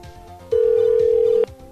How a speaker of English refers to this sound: So the place next to the chocolate place is not picking up their phone for some reason. They probably been told not to, maybe.